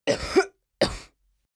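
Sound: coughing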